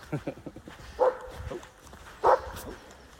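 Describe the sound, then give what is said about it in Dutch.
A dog barks twice, about a second apart: short, sharp barks, with faint background noise between them. “Een blaffert.”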